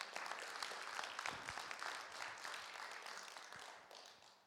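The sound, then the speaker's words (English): A worship service audience breaks into steady applause for musicians who have just performed a song, a dense wash of many hands clapping together that holds for several seconds before gradually tapering off at the end. “I mean, we're proud of you, and we clap for you and all that, but you're doing this for Jesus.”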